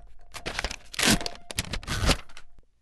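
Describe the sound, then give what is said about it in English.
A manual typewriter, demonstrated by a man in Austin, Texas, clacks away in rapid, uneven bursts of sharp mechanical strikes, loud, with two denser flurries of keystrokes and no voices. “demonstrating a writing instrument you may remember. It's called a typewriter.”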